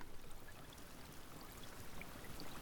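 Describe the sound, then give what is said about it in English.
Steady rain noise, a dense, even hiss of falling water spread across the range, with occasional brighter drip-like ticks and no talking or pauses. “This is just some rain noises.”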